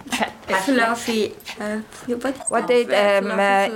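A dog whimpers and yips in a run of high, whiny cries that rise and fall in pitch, broken by short pauses between bursts.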